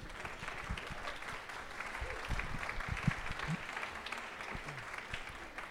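An audience applauds two speakers about to give a talk, a dense, even wash of many hands clapping at a moderate level that neither swells nor fades, with a few faint voices mixed in.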